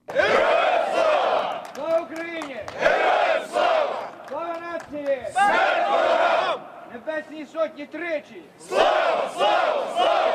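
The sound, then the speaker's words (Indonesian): A large crowd of Ukrainians, men and women in mixed uniforms waving European Union, Ukrainian and Ukrainian army flags, chants slogans such as "Long live Ukraine" and "Long live the heroes, death to our enemies" in loud, rhythmic bursts, many voices shouting together in unison with brief pauses between each call, the chant repeating several times. “Hidup Ukraina, teriak mereka. Hidup para pahlawan, matilah musuh-musuh kami.”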